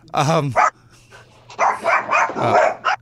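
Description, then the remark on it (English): A dog barks several times: a sharp pair of barks at first, then a quick run of louder barks after a short pause, with a faint steady hum underneath. “Now, there's the pooch.”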